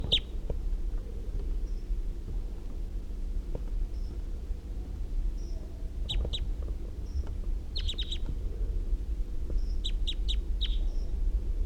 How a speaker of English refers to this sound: Wild bird.